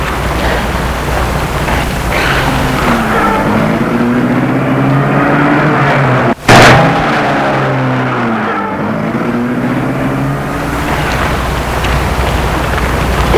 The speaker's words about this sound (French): Et la voiture s'est éloignée.